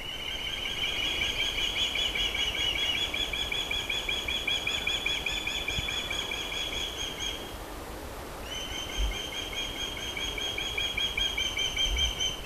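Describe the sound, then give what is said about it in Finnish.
Osprey whistling calls, males that may whistle to one another: a long, steady series of rapid, high-pitched piping notes, pausing briefly before resuming just as insistently, with no voices over them. “siellä on kalasärskiä, jotka kohtaavat toisensa. Koiraat saattavat viheltää keskenään.”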